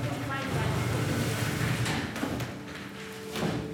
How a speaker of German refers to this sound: Ein ganz normales Klassenzimmer. Auftritt, die Oberstufe der Theatergruppe des Nürnberger Melanchthon-Gymnasiums und ein Lehrer. Sie rücken Stühle und Tische zurecht.